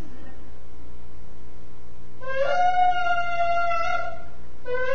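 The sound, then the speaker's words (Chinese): A Jewish ram's horn, a shofar, sounds a single harsh, brassy blast held for about two seconds over a steady low hum, then a second blast starts just before the end. “这是犹太人的喇叭，很难听哦，叫收法。”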